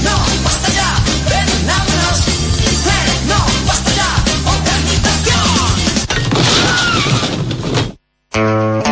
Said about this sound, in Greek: Αυτή είναι κάτι φούρνη που γκρεμίστηκαν, δεν έκλεισαν λόγω κρίσης, γκρεμίστηκαν για τους γνωστούς λόγους.